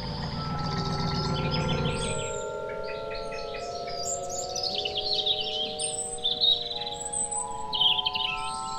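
A large, bright red robin sitting in the middle of a road chirps in quick, scattered bursts over a steady tonal hum, after a car's low engine rumble cuts out in the first couple of seconds as the driver stops and turns off the motor.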